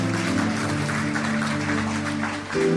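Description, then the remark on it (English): An audience claps for the Lord together in a dense, continuous wash of hand claps, steady and loud throughout, with sustained low musical tones held underneath. “Whether you like it or not, clap for the Lord. Clap for Jesus.”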